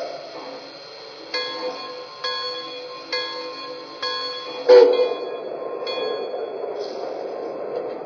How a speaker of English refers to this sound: Now departing from Istanbul on track 1, train number 1954, the TCA Orient Express.